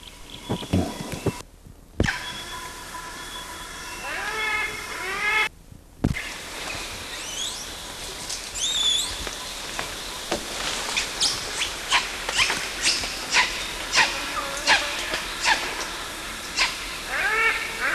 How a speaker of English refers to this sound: Those were squeals and quists by adult male, CW. And the quists were given all this. And as he approached, yes, as he approached either a female or an old juvenile, and now he's copulating with her.